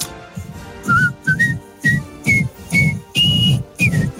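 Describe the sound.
A man whistles a short tune in a series of clear, sustained notes at shifting pitches, fairly loud, with a low breathy undertone beneath each phrase and no talking.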